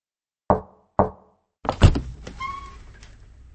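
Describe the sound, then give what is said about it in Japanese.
Two sharp knocks land about half a second apart at the front entrance of a mansion, followed by the clunk and creaking swing of the door opening, with a faint squeak and a lingering rattle trailing off. “扉を開くと、そこには小さな少女が一人いた。”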